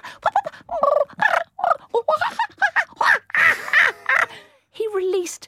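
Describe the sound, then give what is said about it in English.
The 1970s bird impressionist Percy Edwards mimics bird calls in a rapid string of squawks, caws and warbling chirps, fairly loud, with short pauses between bursts. “Back in the 70s, my friend, Percy Edwards, he's the guy that did bird impressions if you've only just joined us.”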